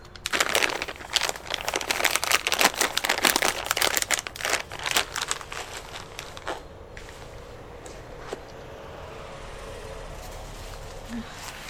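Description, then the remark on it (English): Dense plastic crinkling and rustling as diaper-changing supplies are unpacked in a park for a baby's diaper change, loud and busy for the first several seconds, then thinning to scattered crackles and softer handling noises. “Get out all your supplies.”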